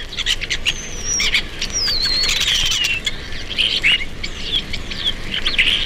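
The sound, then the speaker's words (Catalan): Common starling (Sturnus vulgaris) calls: a busy mix of whistles, squeaky chirps and rising and falling slurred notes, continuous over a steady outdoor background hiss. “Estornell comú. Esturnus vulgaris.”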